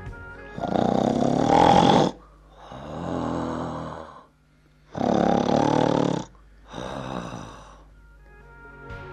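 A man wearing earplugs snores loudly in his sleep, four heavy breaths alternating between a rasping, rattling inhale and a softer, buzzing exhale in a slow, steady rhythm.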